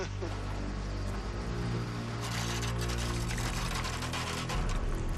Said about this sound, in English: That is a lot of drippage. Fuel is dripping from the Electra's tanks. It all pooled in there overnight, eh?